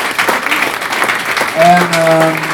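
An audience applauds the musicians with a dense, steady patter of clapping. Partway through, a sustained tonal cheer rises over the claps and holds to the end.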